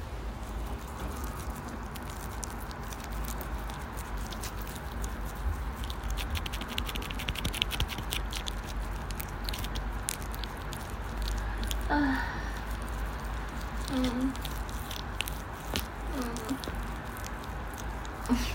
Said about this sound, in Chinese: 伸手摸一下它。全是水啊，全是滑滑的水。你想听吗？你想听？